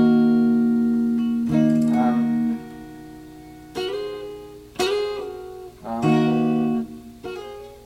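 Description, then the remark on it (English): A D sharp minor chord played on guitar on the middle two strings (strings 3 and 2), struck about five times with bright attacks. Each strum rings out and slowly decays before the next, with no talking. “So let's start with our first chord of D sharp minor.”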